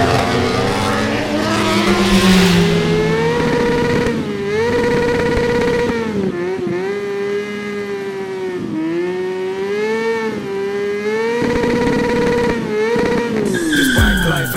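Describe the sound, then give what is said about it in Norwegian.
A race car engine screams at high revs on the quickest lap of the race so far, its pitch rising and dropping repeatedly through gear shifts and corners, loud and continuous with brief tire squeals, ending in a sudden sharp cutoff. “He's putting the hammer down. That's the quickest lap of the race so far.”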